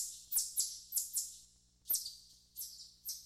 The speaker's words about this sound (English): And here's the kingbird.